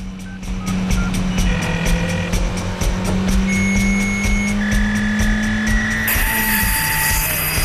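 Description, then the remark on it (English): A car speeds along a road, its engine holding a steady, loud drone that shifts in pitch as it accelerates. A bright high tone joins near the end, and nobody speaks. “Now, the naked woman has taken over the other woman's clothes and car and is charging along the road.”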